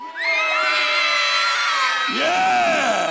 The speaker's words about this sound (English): Yeah. Awesome. Sit down. Good job shouting unto the Lord.